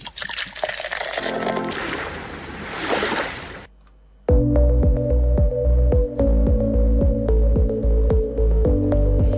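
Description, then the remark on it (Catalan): Rough, stormy sea waves surge and crash in a loud, roaring wash for a few seconds, then stop abruptly before rhythmic music begins. “Doncs avui no és dia, avui no fa dia per sortir a mar.”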